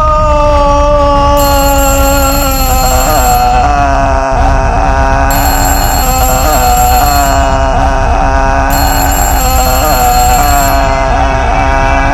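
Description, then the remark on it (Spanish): A telephone rings insistently in repeated bursts, a bright metallic trill that starts, pauses briefly and starts again, loud with nothing else in the scene. “Agarra el teléfono. ¿No piensas contestar?”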